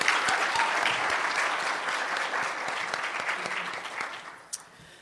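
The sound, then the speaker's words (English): A crowd at a brewers' association pre-conference workshop claps steadily in a dense wash of applause that holds strong for several seconds, then thins and fades toward the end, with a few last scattered claps. “So I'd like to start by asking you all to give yourselves a round of applause for helping this happen.”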